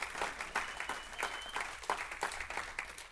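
An audience giving the Lord a clap of praise, clapping together in a steady, fairly quick rhythm, the sharp claps blending into a full wash of applause with no talking over it.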